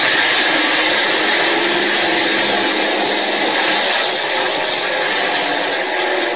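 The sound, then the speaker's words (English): Military airplane engines roar steadily through takeoff, a loud, dense, unbroken drone that holds its level from start to finish with no voices. “Ready for takeoff.”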